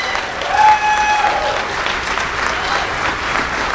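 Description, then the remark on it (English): A crowd claps steadily, the applause dense and even throughout, with a brief whistle-like tone near the start and faint cheering mixed in. “Yes, let's applaud for that.”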